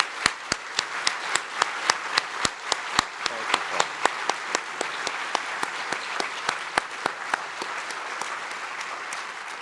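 An audience applauds Paul Kirk steadily for several seconds, a dense wash of clapping with a few sharp hand claps standing out on top, no voices.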